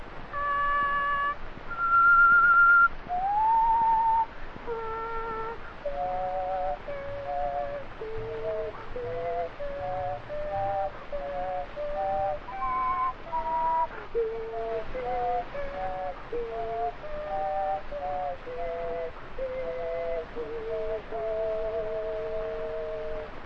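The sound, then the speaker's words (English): A person whistles three tones at once, the stacked notes sliding and stepping together through a wavering tune. The whistling is steady and fairly loud, with no talking. “You ever hear me do those three tones at once?”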